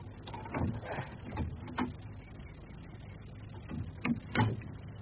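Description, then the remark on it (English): A gate being opened: a series of creaks, rattles and metallic clicks, with a few sharper clacks near the start and again toward the end, at moderate volume and with no voices. “Open the gate forthwith and approach.”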